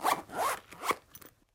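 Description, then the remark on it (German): A zipper is pulled in a few quick rasping strokes, fairly loud, the bursts trailing off into silence after about a second and a half. No voices are present. “Reißverschluss.”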